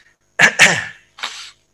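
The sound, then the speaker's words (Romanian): Someone coughs: two quick, harsh bursts back to back, then a brief pause and a third, softer cough. No talking. “Și nu zis asta că am impresia că și din cauza ei tușesc.”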